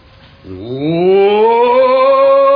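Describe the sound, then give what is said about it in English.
A person lets out a long, loud roar before commencing a speech, as orators do; it starts low and swoops upward in pitch, then holds steady as a sustained bellow until the end, after a brief quiet moment. “You want me to roar? Well, of course we wish you to roar.”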